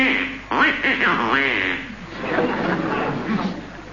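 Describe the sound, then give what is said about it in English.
A run of loud, nasal duck quacks as a duck is thrown under a bed, several squawking calls tumbling over one another, raspy and excited, with no pause between them. “So, throwing the egregious duck under the bed, he immediately ate Grandma with dire consequences, because suddenly he felt coming on a severe...”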